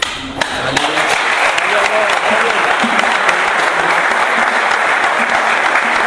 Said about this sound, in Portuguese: E aqui só aplaude.